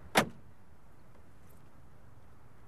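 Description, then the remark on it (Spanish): A single solid car door thunk near the start, then only a low, steady outdoor rumble with no voices, as two people get out of a car on arriving at a park. “José y Alfredo salen del coche.”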